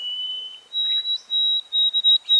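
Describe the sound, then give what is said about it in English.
A white-throated sparrow, recorded about 60 years after an early-1950s recording, sings a simpler, shorter song of pure, high whistled notes: a long steady tone, then a slightly higher one, ending in an abbreviated short run of quick repeated notes. “This bird sings a simpler, shorter song with an abbreviated ending.”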